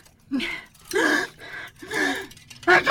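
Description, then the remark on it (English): A sneeze building up: several sharp, breathy gasping inhales in an uneven rhythm, rising toward a sudden loud burst at the end, with no talking. “Bless you.”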